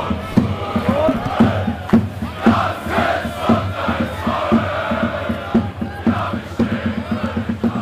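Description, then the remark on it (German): A large stadium crowd of thousands of football spectators roars steadily, with rhythmic chanting and periodic loud thumps or claps punctuating the dense, continuous noise. “Am Wochenende noch auf dem Platz vor tausenden Zuschauern.”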